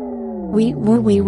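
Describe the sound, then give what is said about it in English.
A single voice imitates an emergency vehicle siren, a quick two-tone wail sung with rising and falling pitch, lasting just over a second. “Wee woo. Are emergency vehicles too loud?”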